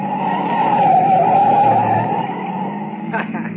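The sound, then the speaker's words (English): A loud, sustained screech of a light car's tires skidding through a sharp right turn, lasting a few seconds over a rumbling engine before easing off into road noise. “Baby, look at her take that right turn, huh? She almost went over.”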